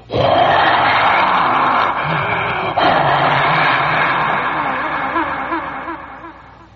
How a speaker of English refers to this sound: And at that point, the club came charging out on the field in their brand new spring uniforms, red and white, bright red hats, and the crowd just a fantastic roar.